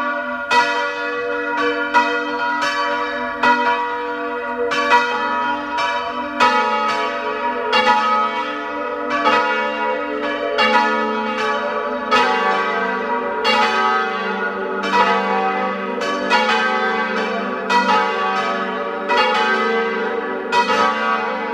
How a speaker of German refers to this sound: Es ist 12 Uhr. Sie hören die Glocken der Pfarrkirche zum heiligen Johannes dem Täufer aus Haflingen in Südtirol.